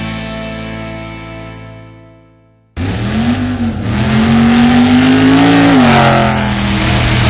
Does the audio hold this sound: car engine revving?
yes